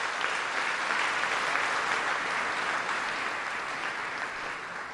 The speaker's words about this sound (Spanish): Démosle un aplauso por el valor mexicano.